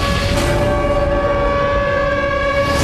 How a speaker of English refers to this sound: The siren is eerie. Run! It is eerie.